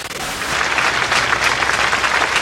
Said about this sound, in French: Pas de cris, juste des mains anonymes qui applaudissent. Dernier salut à Julie et Mélissa.